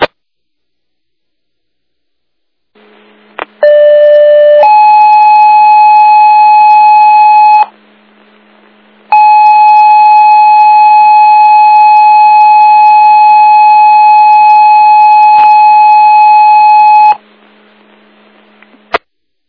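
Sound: emergency dispatch paging tones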